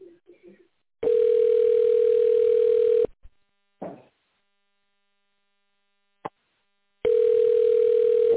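A telephone ringback tone on a call to the Dedal science and production complex, waiting for the secretary to answer: a steady mid-pitched hum lasting about two seconds, a long silent pause broken by a couple of faint clicks, then the tone sounds again. No one speaks.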